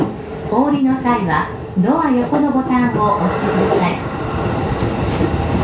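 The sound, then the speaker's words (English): Steady low rumble and rattle inside a moving train carriage approaching Hamura station, with a clear voice talking prominently over the continuous ride noise throughout. “Anyway, I'm almost at my stop and I will stop talking to myself on the train now because this is such a faux pas.”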